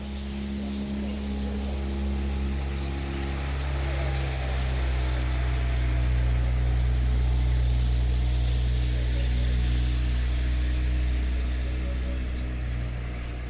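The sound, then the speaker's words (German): A boat motor drones steadily for the whole stretch, a deep, even rumble with a constant low hum and no voices over it. “Motor abgeschalten.”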